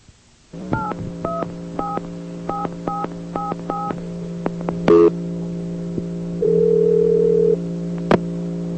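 A steady dial tone hums under a quick run of telephone keypad beeps, eight or so short two-note tones pressed in a brisk rhythm, followed by a few clicks and a longer held tone, as a call is placed to Budget Rent-A-Car.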